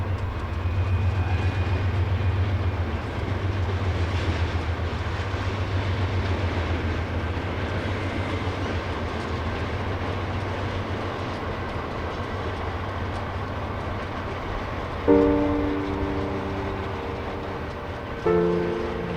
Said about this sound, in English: Am Anfang und am Ende des Stücks steht das Geräusch eines vorbeifahrenden Zuges.